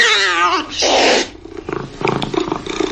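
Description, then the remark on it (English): A cat lets out a loud, drawn-out meow, then a harsh breathy burst, followed by a few shorter, softer vocal sounds. “can't stop your cat from taking the best seat in the house.”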